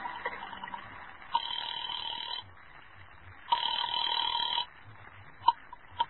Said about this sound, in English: And I went to a booth and dialed a number.